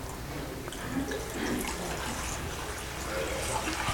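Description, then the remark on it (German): Slightly warm water being poured out of a container, a steady rushing splash that runs continuously without pause and swells slightly louder toward the end. “hier ist das Wasser drin. Wollen wir das mal da rausschütten?”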